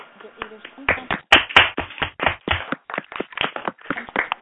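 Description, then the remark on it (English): Audience applause at the Straight Talk Live Chat, thanking Dr. Hasbrook for speaking: a dense, uneven patter of many hands clapping starts after a short, quieter opening and carries on steadily to the end at moderate loudness. “Hasbrook for speaking to us today, and if you could join me by a round of applause.”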